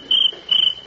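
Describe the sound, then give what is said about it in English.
A cricket chirps in two quick, shrill bursts, its high trilling pulses ringing out clearly against an otherwise quiet background. “I'll fix that cricket.”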